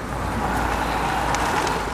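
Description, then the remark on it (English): A car approaches, its steady engine rumble and road noise holding at an even, moderately loud level throughout, with no clear swell, and no voices or other distinct sounds on top. “If a car gets too close, a real pigeon superpower kicks in.”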